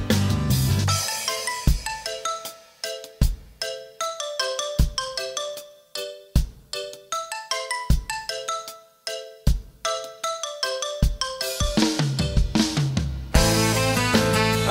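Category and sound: signal or alarm, mobile phone ringtone playing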